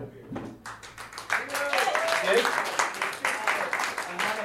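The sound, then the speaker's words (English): A crowd bursts into steady applause that swells after the first second and keeps going, dense clapping with a few voices and whoops mixed in. “Round of applause for the barefoot cheek and charm”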